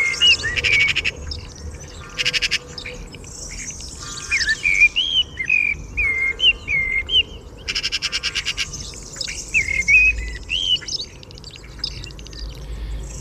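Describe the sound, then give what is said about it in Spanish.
A blackbird, perched on a roof beside the hermitage of Mosén Rubí in Ávila, sings fluting, warbling phrases throughout at dawn while a magpie breaks in with two bursts of harsh, rapid chattering rattles. No one speaks, and a low steady hum sits underneath. “Esto es una urraca. Ahí está el mirlo.”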